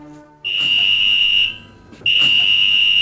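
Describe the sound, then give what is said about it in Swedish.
Alarm signals at a hospital's ambulance station, telling the ambulance crew that a call has come in: two long, shrill, steady high-pitched tones, loud and piercing, separated by a brief pause, with no voices. “De här skarpa signalerna säger att ambulanskillarna att larmet har gått och då gäller det att snabbt ge sig av.”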